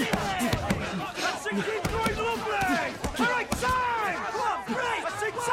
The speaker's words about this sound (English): They trade blows surrounded by fellow recruits. They shuffle back, size each other up, then launch into a flurry of punches. Take it and give it back!